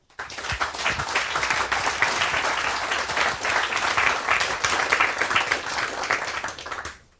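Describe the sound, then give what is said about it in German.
Steady applause from an audience for a discussion panel on the Digital Courage stage. Dense rapid clapping holds at an even level for about seven seconds before tapering off at the end, with no one speaking. “einen Applaus bitte für unser Panel.”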